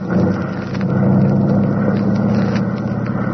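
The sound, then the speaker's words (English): The engine of a nuclear copter runs up for takeoff on an exploratory flight with three aboard, a loud, steady low drone with a buzzing, harmonic whine that swells slightly after the first moment and then holds constant. “We're ready for takeoff.”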